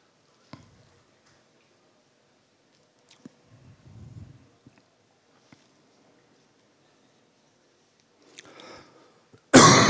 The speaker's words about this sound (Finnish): Nyt alkoi yskittää.